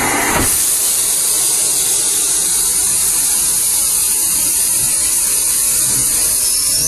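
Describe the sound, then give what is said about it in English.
A loud, steady hiss of steam from a steam locomotive as the regulator is opened, letting steam from the boiler into the steam chest, preceded by a brief mechanical clunk, filling the whole stretch without any talking. “So we blow the whistle, open the regulator, and we should go.”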